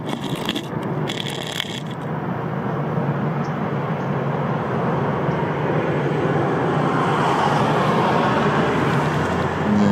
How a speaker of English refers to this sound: Alright. Let's wait for our car to pass by.